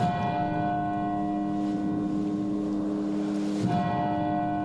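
Church bells ring steadily in Boston after a moment of silence on the third anniversary of the Boston Marathon bombings, their rich harmonic tones sustaining and overlapping, with a fresh strike near the end renewing the sound. No voices, just the resonant pealing.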